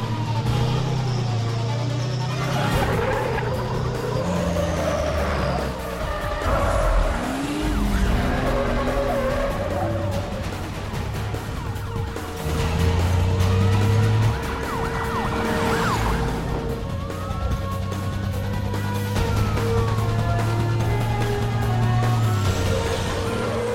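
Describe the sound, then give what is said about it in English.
A truck's engine roars at nearly 60 miles an hour. Its tires screech through a ferocious turn and skid as it comes to a halt on a wharf overlooking the Mississippi River, while sirens wail in the background throughout. “Ferocious turn, he brings the truck to a halt on the wharf overlooking the brown waters of the Mississippi and grabs for his phone.”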